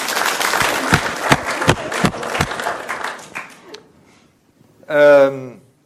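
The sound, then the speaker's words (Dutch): A crowd at a church service applauds the choir Zang aan Vriendschap with dense, steady clapping for a few seconds. Then the applause thins out and dies away before one voice briefly speaks. “Mag voor geklapt worden.”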